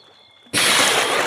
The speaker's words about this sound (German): Dieser zog sich bis auf die Unterhose aus und ließ sich ins Wasser gleiten.